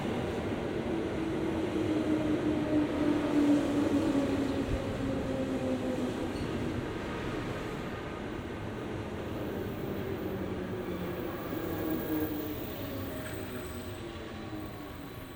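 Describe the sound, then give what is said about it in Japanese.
An electric train, apparently with no conductor or driver, rolls along the rails with a steady, heavy rumble and a faint whining tone that drifts in pitch, staying loud throughout. No one speaks. “驚いた。電車ね。でも車掌も運転手もいないみたい。”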